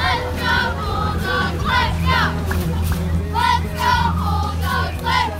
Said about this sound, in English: Downtown Bandera, a homecoming parade crosses Main Street. Students cheer and throw candy to kids lining the route.